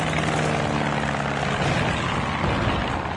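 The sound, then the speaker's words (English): A black propeller plane with swept-back wings drones overhead, its engine a steady, loud, throbbing roar with a low hum that holds constant for the whole stretch, with no voices. “Black plane, wings swept back.”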